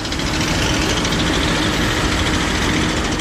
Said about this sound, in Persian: در دامانه های کوهستانی بدخشان، جایی که سالها صدای تشته های فلزی و دسته های پینه بسته در پی دانه های طلا با رودخانه می گوشید، امروز غرشی بیوقعه ماشینالاتی چینی و افراد وابسته به طالبان دل کوها را می درد.